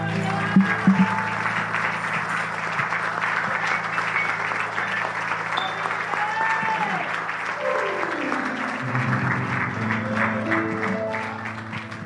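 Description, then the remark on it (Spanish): An audience claps loudly and steadily for the whole stretch as applause to the Lord during a church service, a dense wash of many hands, while sustained keyboard chords hum underneath and shift pitch near the end. “Aleluya, fuerte el aplauso al Señor.”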